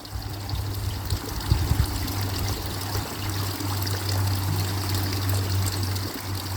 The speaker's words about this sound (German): Gib alles dem Wasser, dem fließenden Bach, dem Fluss des Lebens, was du nicht mehr brauchst.